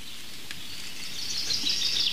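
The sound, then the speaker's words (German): A steady, soft hiss of rain falls without a break in a forest, its bright texture growing a little fuller toward the end. No voices are heard. “Dass, falls es noch nicht ordentlich geregnet hat in euren Regionen, ihr euch zumindest für mich freuen dürft.”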